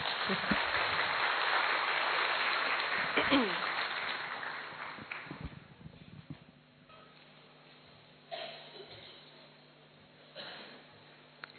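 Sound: audience applause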